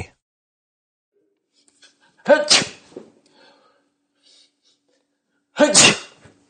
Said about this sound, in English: You're really sneezing a lot